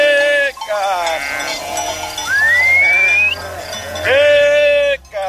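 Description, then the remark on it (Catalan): A flock of more than 500 sheep, on a summer transhumance on foot in Catalonia, bleats loudly and repeatedly, several overlapping calls, with cowbells clanking steadily underneath and a brief whistle partway through. “A l'estiu camina durant 4 dies amb més de 500 ovelles, des del poble de Rivert fins a la muntanya d'Erta, a 1.600 metres d'altitud.”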